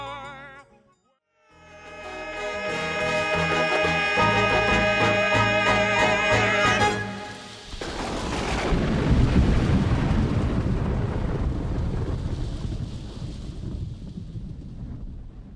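A song from a stage musical closes on sustained, swelling chords, then a loud rushing roar like wind and rolling thunder takes over and fills the remaining seconds.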